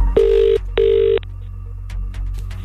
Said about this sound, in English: If we do, it is your phone that's going to ring right now. Please answer your phone in that very particular way or else you won't get yourself onto that shortlist.